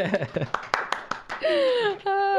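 audience clapping

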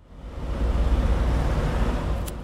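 busy street traffic

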